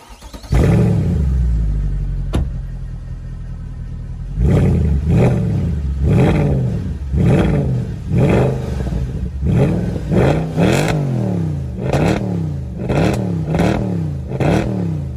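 A car engine idles with a deep rumble and one sharp crack, then revs hard again and again in quick bursts, each rising roar ending in loud popping exhaust bangs.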